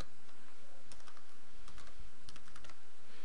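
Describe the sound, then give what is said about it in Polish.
Quick, irregular clicking of keys on a computer keyboard as a security code is typed into a form while registering a Twitter application, a few short bursts of light taps with brief pauses between them, at a moderate level with no voices. “Akceptujemy oczywiście zasady i wypełniamy na dole kod zabezpieczający.”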